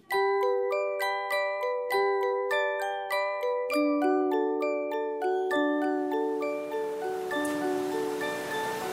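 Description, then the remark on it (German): A peal of bells rings out in a steady, rapid sequence, each clear metallic strike overlapping the last as the pitches shift and the ringing builds into a dense, resonant wash. “Von wegen süßer die Glocken klingen.”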